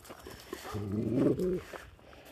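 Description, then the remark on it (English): A dog called Dog Alley makes a brief, drawn-out whining growl lasting about a second, with faint rustling and shuffling before and after in an otherwise quiet outdoor setting. “Come on, Dog Alley.”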